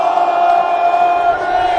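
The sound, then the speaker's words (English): A large crowd of Saskatchewan Roughriders fans roars and cheers continuously at a Grey Cup championship celebration, a loud, sustained wall of voices with shouts blending together, steady throughout. “He was amped up, and so was the crowd. They were ready to party on.”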